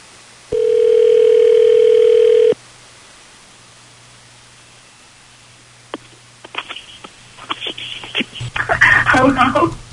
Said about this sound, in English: Calling Lexi right now. Let's hope she answers the phone.